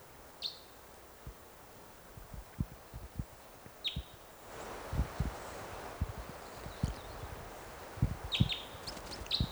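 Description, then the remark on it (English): Three short bursts of high, chirpy chittering from a lone orange-coloured male red crossbill perched in a tree above a net site come a few seconds apart, fairly soft, over a steady run of low thumps and rustling. “Chitter there.”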